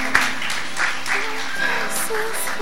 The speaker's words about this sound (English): All right, good job, man. Give him a hand clap.